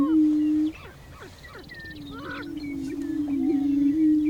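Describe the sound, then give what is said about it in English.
Prairie chickens call at dawn as the sun starts to rise, heard from inside a blind: a steady, low, hollow moaning hum drones throughout, overlaid by scattered higher clucks, whoops and cackles from several birds. “Prairie chickens become visible as the sun starts to rise.”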